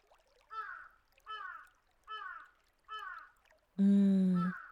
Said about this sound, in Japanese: かなり特徴的な鳴き声だとは思うけど、君にわかるかな？なんて、冗談冗談。正解はご存知、カラスさんでした。